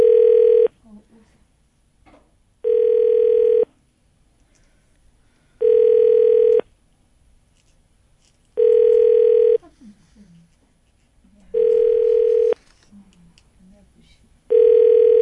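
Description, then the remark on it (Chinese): A phone's ringback tone repeats six times, steady one-second buzzes separated by short pauses, with no answer, on the fourth call in a row. Faint, low voices murmur in the gaps between rings. “继前面两通之后，现在已经连共四通了。”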